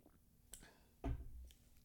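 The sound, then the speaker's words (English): A quiet sip: a small lip click, then a brief wet slurp and a soft gulp of liquid, with no talking. “Let me put my serious voice on and take a sip before I get into this.”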